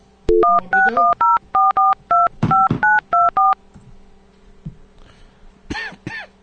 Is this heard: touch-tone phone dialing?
yes